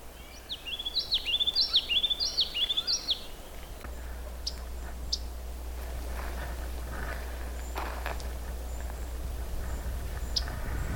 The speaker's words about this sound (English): That chip sound is a yellow-rumped warbler.